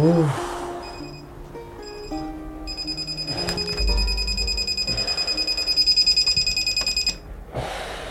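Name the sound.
alarm clock ringing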